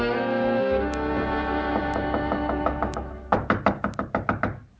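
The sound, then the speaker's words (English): Children rap on the wooden door of their home in a quick, steady series of about eight firm knocks, preceded by lighter taps, with a sustained musical drone underneath. “Open the door!”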